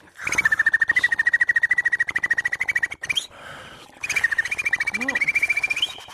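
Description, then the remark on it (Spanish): A voice makes a rapid inward rolled R, a so-called click roll, while holding a steady high whistle on top, in two long bursts separated by a short breathy pause, sounding like a chirping frog or bird. “Este se llama click roll. A ver. Es hacia adentro. Una R hacia adentro.”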